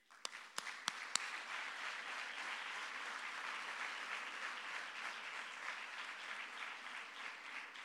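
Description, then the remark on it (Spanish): A crowd breaks into sustained applause as a tribute to those who have completed 25 years as bearers of the Virgen de los Dolores y Soledad, starting with a few sharp individual claps before swelling into steady, dense clapping that holds evenly throughout. “Por todo ello, invitamos ahora a recibir este homenaje a quienes han cumplido 25 años como anderos de la Virgen de los Dolores y Soledad, con un aplauso de todos nosotros y sus hermanos.”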